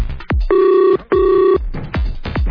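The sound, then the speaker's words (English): An internet call's ringing tone sounds twice, each steady electronic buzz lasting about half a second with a brief gap between, loud, framed by quick swooping tones. “And it's ringing.”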